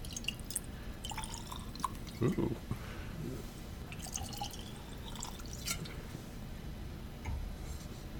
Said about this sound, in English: Maybe put a few stones in these glasses. Because... I'm really looking forward to a nice chilled glass of this whiskey. I am too. My glass is already cold and I haven't poured anything in it. Well, we'll fix that.